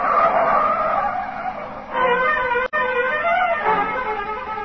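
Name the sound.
car driving fast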